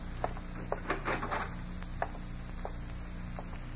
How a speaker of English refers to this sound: Somebody come in. Probably the landlord. All right, open the door, open the door. Don't let him get away.